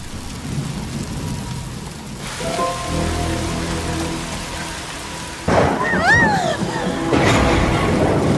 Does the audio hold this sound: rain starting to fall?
yes